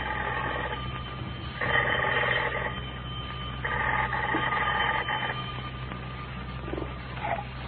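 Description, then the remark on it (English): An old-fashioned telephone bell rings at the Jot'em Down store in Pine Ridge in three rattling bursts separated by short pauses. It sounds muffled and somewhat thin over a steady low hum, with no one speaking. “The telephone is just ringing.”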